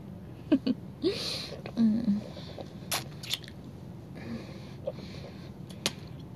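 Wet sucking and smacking sounds come in irregular bursts, mixed with sharp little clicks and a few low, muffled hums, over a quiet hiss.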